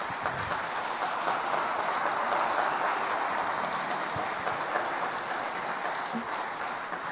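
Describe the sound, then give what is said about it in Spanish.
Sustained applause from an audience at the opening of an international Gnostic congress, honoring the organizer, a dense, steady wash of many hands clapping at once for about seven seconds, fairly loud and even throughout with no voices on top. “a quien les pido, le brindemos un muy fuerte aplauso.”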